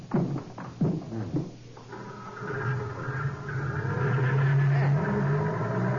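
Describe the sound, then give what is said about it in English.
A jeep with side curtains starts with a few uneven bursts, then settles into a steady, growling drone as it drives on early in the morning, its low hum rising slightly in pitch and loudness. “Side curtains on this jeep, and it's something Orlando must be used to seeing.”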